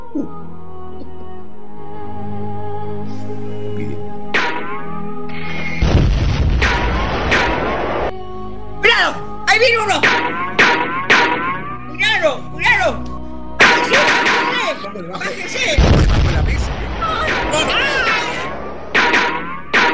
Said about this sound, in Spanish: Sirenas que abrumen y tiros que impacten.